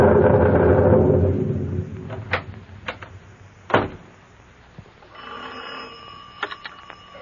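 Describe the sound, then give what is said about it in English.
A rush of noise and a few sharp clicks and knocks give way to an old telephone bell ringing steadily as a call is placed from a shack to the substation, with no one speaking. “I'm going to the shack and phone them to shoot the juice, so figure the line wire's hot from now on.”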